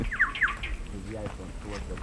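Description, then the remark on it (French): A couple of quick bird chirps ring out at the start beside a watering point, followed by softer twittering as a voice murmurs faintly in the background. “Et on entend les oiseaux maintenant aussi.”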